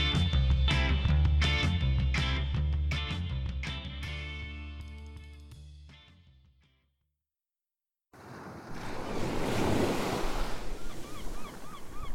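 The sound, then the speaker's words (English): Music fades out into a brief silence, then a steady, fairly loud wash of ocean waves breaking on a beach in the morning fills the last few seconds, with faint bird calls above it. “This has been a great morning at the beach so far.”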